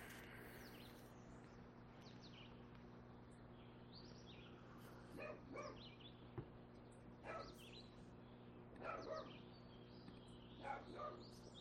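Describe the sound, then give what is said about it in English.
A dog barks excitedly, several scattered barks and short bursts against a steady electrical hum, with faint birds chirping outdoors and no one speaking. “Sorry if you can hear my dog going nuts.”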